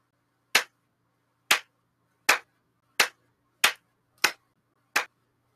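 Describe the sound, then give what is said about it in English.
A slow clap: seven sharp, crisp hand claps at a deliberate, fairly even pace, each ringing out briefly over near silence, with no voices. “Slow clap.”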